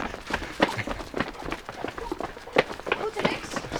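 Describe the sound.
Quick, rhythmic running footsteps thud at a steady pace through a neighbourhood in Amersfoort, following the tracking dog Dex, with faint breathing and some talking mixed in.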